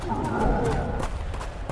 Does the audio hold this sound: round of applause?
no